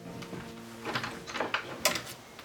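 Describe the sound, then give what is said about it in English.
A man opens a door quietly, with a few soft latch clicks and faint rustling movement scattered over a couple of seconds, no voices. “The Queen moves towards the door and the man opens it.”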